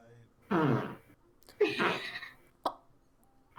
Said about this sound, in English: There's no way that wasn't a real fart! You could not tell me that was your chair. That was a fart? That was a huge fart.